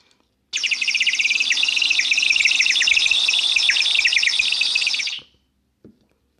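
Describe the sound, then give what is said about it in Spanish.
High, thin birdsong chirps in a rapid, unbroken buzzing stream for about five seconds, loud, then stops abruptly, leaving only a faint soft click. “El pez empieza a cantar y en su canto alado, chirriante, zumbante, constante, un canto finito como el de un pajarito.”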